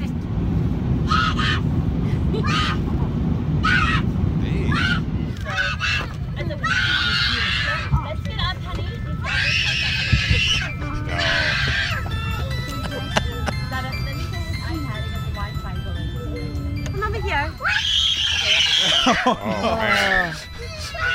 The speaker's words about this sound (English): And, but this kid here sounds demonic, and he screamed the entire flight.